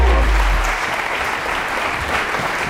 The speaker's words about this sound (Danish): Kom her op på podiet, og vi kan klappe af dem, mens det går.